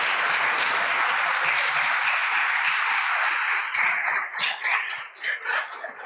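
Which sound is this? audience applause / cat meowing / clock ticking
audience applause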